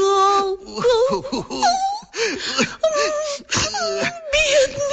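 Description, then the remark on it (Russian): A voice imitates bitter sobbing and wailing, with long quavering moans broken by gasping, hiccuping sobs, loud, continuing in uneven bursts throughout. “И вдруг они услышали горькие вздохи и всхлипывания.”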